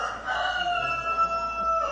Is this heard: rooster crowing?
yes